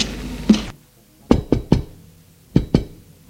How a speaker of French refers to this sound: À l'hôtel du là, le brigadier va frapper à la porte.